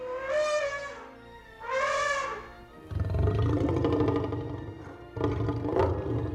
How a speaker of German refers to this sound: Ich weiß zum Beispiel, dass es bei dem T-Rex in Jurassic Park Laute von Elefanten und von Löwen sind, die irgendwie kombiniert worden sind.